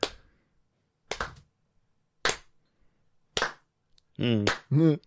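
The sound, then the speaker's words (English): Four sharp, loud hand claps, clapping along to a song parody, land at a slow, steady beat about a second apart, then a voice begins singing over the last moments. “I will sing you a song parody, but I need you to clap along.”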